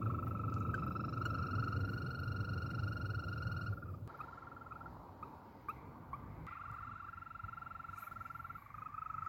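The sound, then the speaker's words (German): European green toad males give their mating call to find females: long, steady, high-pitched trills, each lasting several seconds, with a second trill starting after a brief pause, over a constant low background rumble. “Die Männchen nutzen den Paarungsruf, um Weibchen zu finden.”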